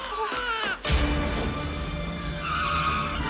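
car speeding off

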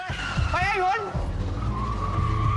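car speeding away

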